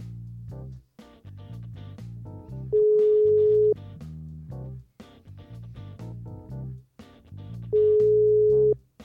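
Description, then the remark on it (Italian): A telephone ringback tone as a call is placed: two steady one-second beeps about five seconds apart, loud and clear over a continuous background music bed, with no voices. “Squilla.”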